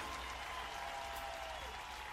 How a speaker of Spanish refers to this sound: Tienen en el Auditorio Nacional al rebelde del acordeón, señores. Un aplauso, por favor.